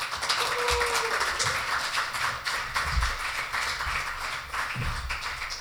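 A crowd applauds steadily, a dense wash of many hands clapping at once that stays loud and even for several seconds, with a few low thumps and a brief faint whistle early on.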